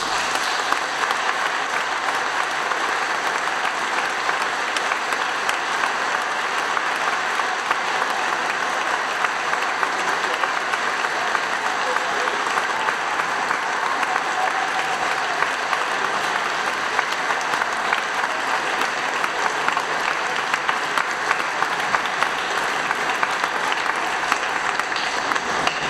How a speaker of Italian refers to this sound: Infine, nella speranza che il fragore del battimani sia almeno pari a quello del batticuore che si prova ogni volta che salutiamo un amico per un lungo viaggio, vi abbracciamo con un caloroso applauso.